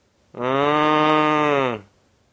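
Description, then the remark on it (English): A person imitates a cow's moo: one loud, steady, low droning call lasting just over a second, held at an even pitch and cut off cleanly, with no other sounds around it. “How could you forget the cow moo?”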